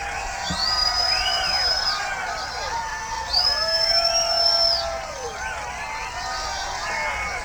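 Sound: audience cheering and applauding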